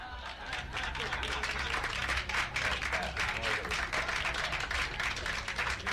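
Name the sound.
crowd applause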